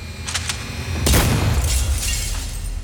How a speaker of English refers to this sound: Making a snap decision, he blasts the glass in an explosion that echoes through the sleeping neighborhood.